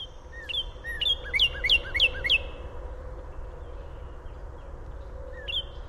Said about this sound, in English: Luckily, Ward has been collecting audio of birds across Illinois in recent years, including the cardinal, which sounds like this.